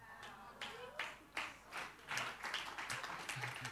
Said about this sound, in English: Oh, it's not a weak clap, that's like a wow! How cool is that?